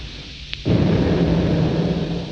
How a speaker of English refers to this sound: Right. Door isn't going to budge. Give me the drill. Now the blowtorch. Now the explosive. Bite. Stand back.